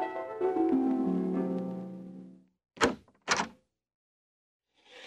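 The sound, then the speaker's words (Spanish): A long, creaky squeak of a door swinging open, followed by two sharp thuds like a door and window banging shut, with no one talking. “Eso es la puerta y la ventana.”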